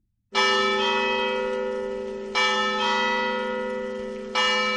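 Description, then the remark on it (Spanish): The bells of Oviedo Cathedral in Asturias ring out loud on 10 December, the feast of Santa Eulalia de Mérida, patron of Oviedo: three strong strikes about two seconds apart, each leaving a long, shimmering hum that overlaps the next. “Las campanas de la Catedral de Oviedo han sonado en un día señalado para la ciudad y para la diócesis.”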